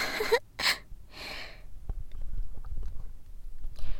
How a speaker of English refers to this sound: Did you hear just how many gulps it took for me to swallow all of it?